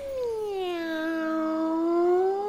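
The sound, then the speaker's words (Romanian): A single long, drawn-out cat meow, clear, sliding down in pitch and then rising slightly at the end, sustained for a couple of seconds with no talking. “Pisica s-a ivit din nou.”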